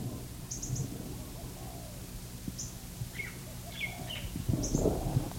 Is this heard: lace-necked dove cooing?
yes